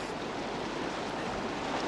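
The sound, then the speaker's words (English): A fast river current rushes in a steady, dense roar as someone wades across the rocky stream, using a stick for balance, with churning water and no voices. “I'm using a stick to help keep my balance, but not very effectively. This force of the current. And of course, I can't see the bottom.”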